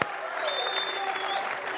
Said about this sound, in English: They're not booing, they're saying Bruschi.